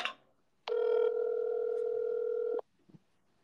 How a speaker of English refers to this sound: I'm going to call him now. I have to do it over the phone. I can't send him the link, so it's going to take a little bit. So, phone's ringing here.